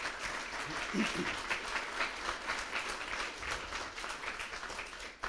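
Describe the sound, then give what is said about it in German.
An audience applauds to welcome a guest, a dense wash of many hands clapping at an even level throughout, with a faint murmur of voices underneath. “Großen Applaus bitte mal.”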